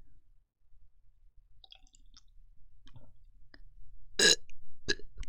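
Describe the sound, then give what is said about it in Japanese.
A loud burp is followed by two shorter burps in quick succession, after a stretch of quiet with faint soft clicks and small mouth sounds. No speech. “うわ、こっちもゲップ連続でやっちゃった。”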